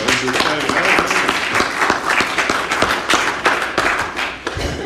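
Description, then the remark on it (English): A crowd at a morning service applauds a guest speaker steadily for about five seconds, many hands clapping in a dense, loud, even patter, with a few voices faintly mixed in beneath it. “And if you would please, if we could give her a round of applause.”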